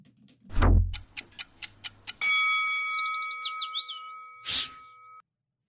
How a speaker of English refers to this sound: There's the clock. As soon as that starts going, there it is.